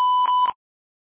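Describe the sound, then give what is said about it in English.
A single answering machine beep, a steady high electronic tone held for about half a second with faint clicks, then cut off abruptly into silence. “The person you're trying to reach isn't available right now, but you can leave a message after the beep.”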